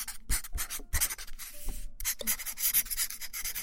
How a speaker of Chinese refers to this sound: 记号笔的质感好听，你写了一个报告